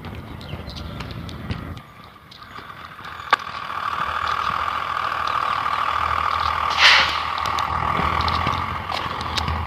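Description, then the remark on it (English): A large school bus pulls up and idles, stopping to pick up a man who was waiting for it; its low engine rumble is steady beneath street noise, with a short burst of air-brake hiss partway through. No one speaks. “Turns out, apparently he was, because that school bus that just went by is now picking him up.”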